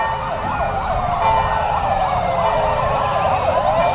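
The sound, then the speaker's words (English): Several fire and police department sirens of Stevens Point, Wisconsin wail together at the 30th Annual Special Olympic Summer Games, Coleman Stadium, University of Wisconsin, their rising and falling tones overlapping loudly and continuously, with a low rumble of traffic underneath and no talking. “This Bell of Hope was accompanied by the fire and police department sirens, the applause of people who filled up Coleman Stadium at the University of Wisconsin, Stevens Point.”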